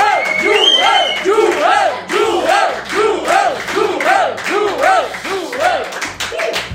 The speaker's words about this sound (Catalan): Nosaltres, rebem amb un fort aplaudiment a Joel Díaz.